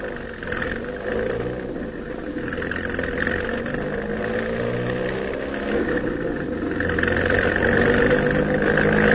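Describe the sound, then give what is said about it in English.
A car engine hums steadily and grows gradually louder as the vehicle draws nearer, a continuous low rumble with no voices over it. “Listen, there's a car coming.”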